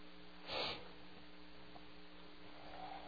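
A single quick nasal sniffle, fairly loud, cuts through a steady low electrical hum; the rest of the short stretch is quiet with no talking.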